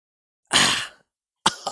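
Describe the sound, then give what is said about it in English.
A harsh, forceful cough bursts out, followed after a short pause by another sharp cough, rough and strained, with no talking. “I'm coughing so hard that I'm in pain in my chest.”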